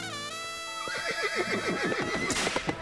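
A horse gives one loud whinny lasting a couple of seconds, a bright quavering call that wavers rapidly up and down in pitch before trailing off, with no voices.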